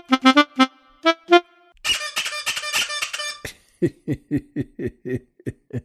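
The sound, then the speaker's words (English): A squeezed rubber bird toy lets out a run of squeaky hoots: several quick honks, a dense rasping squeal, then a rapid series of short squeaks, loud with no talking. “How hard did you have to squeeze that bird?”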